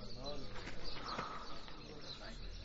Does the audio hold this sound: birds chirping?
yes